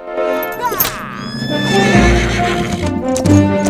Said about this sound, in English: He feeds the flowers to his horse, then rides off.